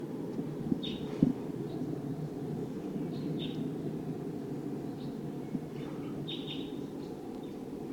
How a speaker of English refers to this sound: Wild? It sounds like a V-shaped flight call note. Wild bird. Wild?